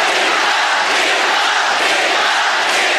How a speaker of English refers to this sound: At the 2008 Olympics in Beijing, she upset Venus Williams in the quarterfinals. And the crowd went wild.